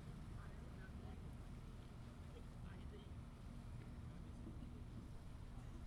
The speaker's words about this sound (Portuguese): Tá saindo a lancha de R$3 aqui do lado do verde e branco